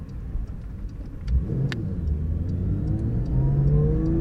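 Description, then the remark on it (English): A car with a seven-speed gearbox idles low at traffic lights after shifting back down into first, then revs up and accelerates away. Its pitch climbs steadily as it pulls off, with a brief gear change partway through. “So that means we're going to pull up at the traffic lights here for a moment. And away we go. Back down into first.”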